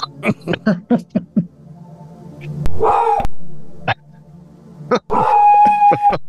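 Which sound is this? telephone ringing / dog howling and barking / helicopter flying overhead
dog howling and barking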